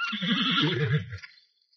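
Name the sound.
horses neighing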